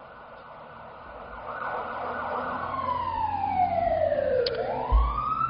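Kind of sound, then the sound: signal or alarm, emergency vehicle siren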